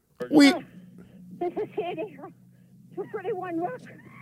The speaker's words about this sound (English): See? It's another chimp in the background. You hear that?